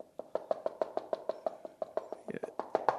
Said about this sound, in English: What's that? Oh, that's a drummer. He's knocking at the door.